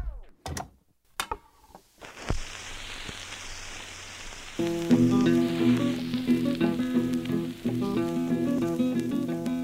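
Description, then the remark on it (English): A few sharp clicks and pops, then steady surface hiss and crackle of a worn 78 record; about halfway through, old-sounding music begins, playing beneath the constant crackle. “One of the things that became really fascinating to me about listening to old recordings is actually how hard it is initially to really listen through the crackle and through the bad sound of a worn old 78 record.”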